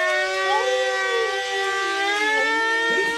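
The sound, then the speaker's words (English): A loud, sustained siren wails steadily with rich layered harmonics and slowly shifting pitch, played to make a dog howl, with no talking throughout. “Case, you have the siren?”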